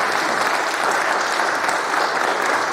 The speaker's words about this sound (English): give her a good clap, because she deserves it.